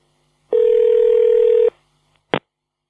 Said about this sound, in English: So I'm going to return his call now, and it's ringing.